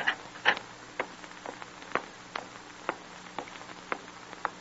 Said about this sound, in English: And one night, quite late, Jim hears the clanging of the outer gate and hollow ring of footsteps approaching down the long, stone-flagged corridor leading to his cell.